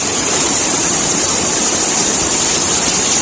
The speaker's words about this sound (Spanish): Este era el sonido del agua entrando en varias bocas de metro.